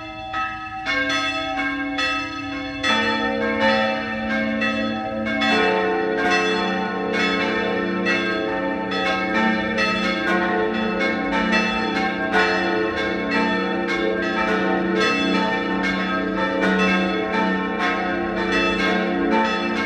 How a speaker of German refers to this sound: 12 Uhr. Sie hören die Glocken der Pfarrkirche Papneukirchen in Oberösterreich.